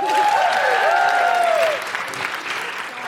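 An audience claps loudly in a dense, steady patter, with some whoops and cheers rising over the applause before it thins out and fades toward the end.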